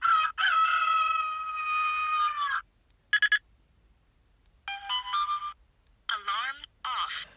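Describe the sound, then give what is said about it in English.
A digital watch in alarm setting mode cycles through alarm sound options as its 4 o'clock button is pressed: a long warbling crow-like tone, a quick pair of beeps, then brighter chirping and sweeping electronic tones, each separated by short silences. “I can now press the 4 o'clock button to switch through alarm sounds.”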